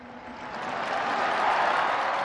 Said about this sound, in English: The crowds clapped in delight and relief.